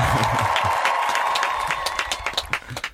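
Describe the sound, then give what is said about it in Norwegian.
A crowd applauds with dense, steady clapping and some faint cheering, gradually thinning out toward the end as individual claps become more distinct. “Nei, videre med applaus, da.”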